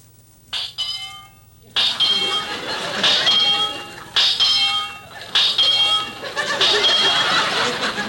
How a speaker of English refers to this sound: Well, that's certainly a peculiar heartbeat. Well, it has to beat like that. It's in my contract.